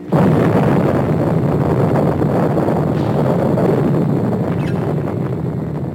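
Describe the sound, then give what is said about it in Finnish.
A sustained, loud roar of a nuclear explosion's shock wave, a dense, deep rumble with a windy, buffeting texture that holds steady for several seconds without pause, with no voices. “Внимание! Идет ударная волна!”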